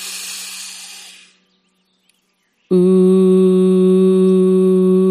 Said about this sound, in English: Very small, make your lips very small like an ooh, taking a deep breath in through your nose and out. Ooh. Breathing deep into the belly and out.